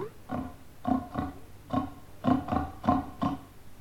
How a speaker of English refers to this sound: That was one of my pigs. Do you keep pigs too?